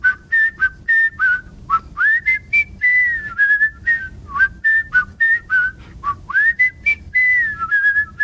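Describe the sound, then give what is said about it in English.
A person whistles a steady melody using the double-tone technique, two tones sounding at once, clear, broken by short percussive mouth clicks and breaths in a quick rhythm, with no talking. “And double tones.”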